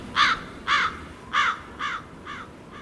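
A crow caws five times in a steady rhythm, each harsh, raspy call about half a second apart, the calls growing gradually fainter, with no talking.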